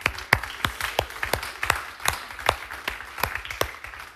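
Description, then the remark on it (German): Audience applause for a band that stepped in at short notice, with many sharp, overlapping claps in an irregular, steady patter, moderately loud and sustained throughout, with no voices heard. “Geben wir doch einen Applaus für sie.”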